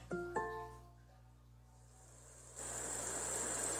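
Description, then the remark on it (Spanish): Two quick bright chime tones ring out, a short lull follows, then an Alexa smart speaker begins playing rain ambient sound, a steady, even hiss of rain that continues to the end. “Muy bien, aquí tienes sonidos ambientales, lluvia.”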